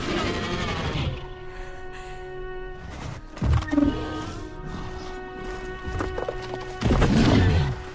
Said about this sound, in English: So it's a sound I started using in the very bigger, like last year when Drogon shows up, you'll hear these beautiful nose whistles. They're from my dog. And and that is another sign of just tenderness.